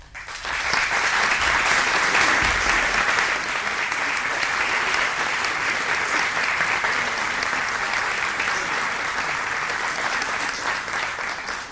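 Sustained audience applause, a dense wash of many hands clapping at steady loudness for about twelve seconds, fading slightly at the end, with no talking over it, given as a tribute of admiration to the work of composer Eduardo Tolrà at an homage to him.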